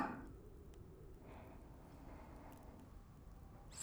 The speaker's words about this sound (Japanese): 先ほどからわしの吐息がお前さんの耳に届いておるじゃろう。